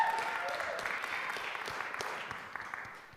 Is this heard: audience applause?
yes